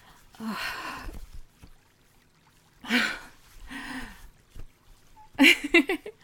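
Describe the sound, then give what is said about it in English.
Water from a spring pours and splashes in several short bursts, fairly loud, separated by quiet pauses, as someone washes mud from their body and face at the spring. “Here, we've reached the spring, and right now, I really need to wash the mud from my body and face.”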